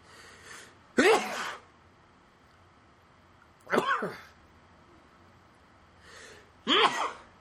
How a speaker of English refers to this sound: Oh, nothing like sneezing on air.